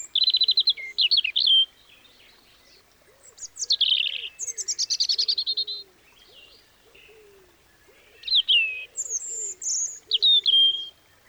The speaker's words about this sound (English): And you can hear them. They've got a much higher voice, similar to a blackbird, but a bit more of a tenor. And they've also got a really beautiful voice where they mark out their territories in the spring.